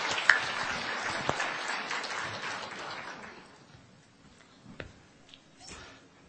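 A crowd applauds with dense, steady clapping that gradually thins and fades over a few seconds, leaving only a few scattered claps and faint room noise at the end.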